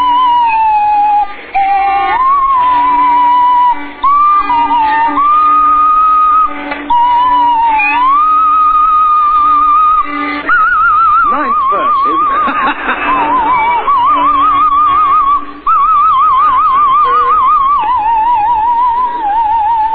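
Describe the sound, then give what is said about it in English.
A swanee whistle slides and wobbles through a wavering tune, its pitch gliding up and down continuously, while Tim Brooke Taylor plays plucked pizzicato violin notes underneath in a steady rhythm. “Milani has the swanny whistle.”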